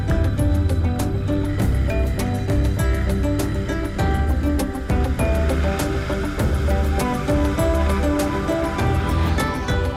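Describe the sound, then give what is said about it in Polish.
A boat motors steadily across the water toward a floating market in Thailand, its engine droning loud under a continuous wash of splashing water, with no voices. “Jest taki ogromny wodny tar, gdzie wszyscy pływają na łodziach. Ci, co kupują, ale też ci, którzy sprzedają. Właśnie do niego płynę.”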